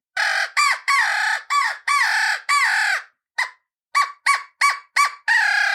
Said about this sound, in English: If it'll do a high ball, then it'll do any crow note that you want it to do.